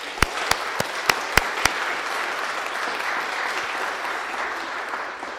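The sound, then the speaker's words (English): A church audience at Christian Baptist Church applauds an organist and choir master's 50 years of service, a few sharp, loud claps standing out at the start before settling into a dense, steady patter of clapping that carries on evenly for several seconds with no voices. “Fifty years of doing anything is to be applauded, but 50 years of doing something well is to be applauded all the more.”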